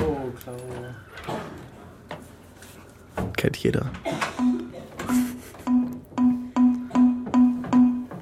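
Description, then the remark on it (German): Brief speech, then a short, bright Windows Forms error ding repeats about eight times in a steady, quick rhythm, each chime equally loud and clipped, a system alert that sounded when no action was assigned to Escape or Enter in a Windows Form. “das bei Windows Forms so, dass wenn in einem Windows Form keine Aktion für Escape oder Enter hinterlegt war, dann kam immer dieses Ding Dong, Ding Ding Ding Ding Ding Ding Ding.”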